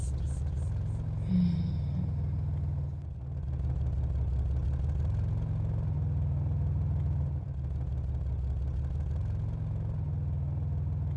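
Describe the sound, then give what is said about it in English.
A car engine drones steadily at a low pitch, like a cabin rumble heard from inside a moving vehicle, holding constant with a few faint higher tones near the start, as the car comes gently to a stop. “The car stops so gently, you barely notice it stopped.”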